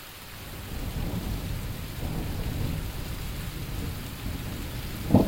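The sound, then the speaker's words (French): Heavy rain pours steadily, a dense continuous hiss over a deep rumble of thunder, with a sharp knock near the end and no voices. “C'est de l'accélération de pluie en live.”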